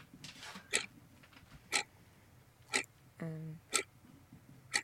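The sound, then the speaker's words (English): A countdown timer clock in a studio ticks steadily during a word-memory challenge, five crisp, evenly spaced ticks about a second apart, with a brief low hum from a voice between two of them. “So the clock starts now.”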